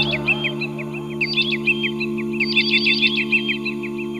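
Nightingales sing and bathe, in rapid, busy bursts of bright chirps and trills, continuous, layered over a steady low humming drone with no talking.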